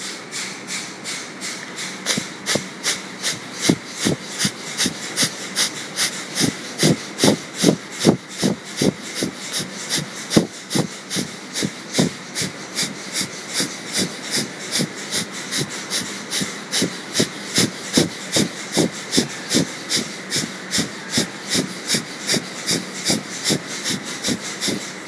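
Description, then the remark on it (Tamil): Kapalabhati breathing, done seated with hands on the knees, head raised and spine straight: a long, steady run of sharp, forceful nasal exhalations, roughly two per second, each a short breathy puff. They continue without pause and with no talking. “Now let us two Kapalbhati.”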